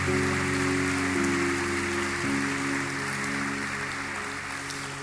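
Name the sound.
audience applause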